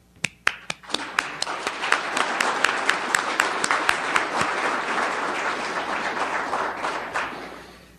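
An audience in the city of Orem bursts into applause, starting with a few sharp individual claps that quickly swell into steady, dense clapping, holding for several seconds before tapering off at the end.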